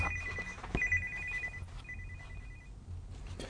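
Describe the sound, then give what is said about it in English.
A telephone rings with an incoming call, a bright, trilling electronic tone sounding twice in quick bursts over a low background rumble, moderately loud, with no one speaking. “My girlfriend's on the phone.”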